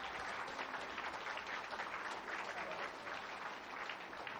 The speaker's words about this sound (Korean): 네, 우리 청년들에게 다시 한번 뜨거운 박수 부탁드릴게요.